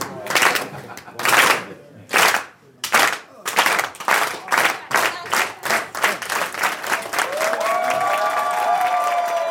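An audience claps in unison, starting with slow, loud, evenly spaced claps that steadily speed up until they merge into continuous applause with cheering near the end.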